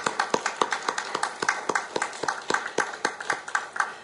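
A church audience applauds steadily to give thanks and glory to God at a thanksgiving service, many hands clapping together in a dense, rhythmic patter with sharp, regular accents that stay fairly loud throughout, with no voices on top.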